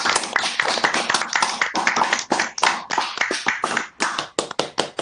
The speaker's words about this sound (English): We thank you for your fantastic work in the last 3 years. And we give you a warm round of applause.